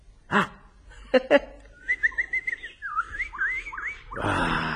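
A robin in a garden sings a thin, warbling run of high notes for a couple of seconds, rising and falling, after a few short thumps and before a burst of rustling noise.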